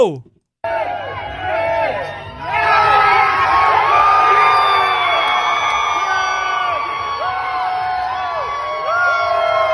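crowd cheering

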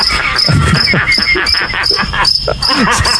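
cricket chirping

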